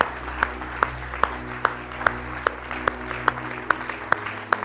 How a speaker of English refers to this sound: So in closing, I don't know what else to do, but maybe give the Lord a big thanks, a big clap offering. Just let him know we believe he is the King of Kings and the Lord of Lords.